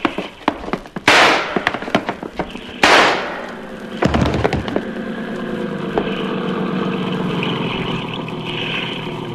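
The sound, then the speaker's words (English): Two sharp, loud gunshots ring out about two seconds apart, each trailing off in a brief echo, followed by a steady, rumbling motor drone with no voices. “Yancey got two shots. The first one missed me.”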